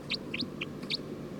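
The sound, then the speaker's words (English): A bird, numbered 306 in a recording session, gives four short, high-pitched chirps at slightly uneven intervals, fairly clear above a steady low background hum. No one speaks. “Trying to get bird 310. Stop. We're recording bird 306.”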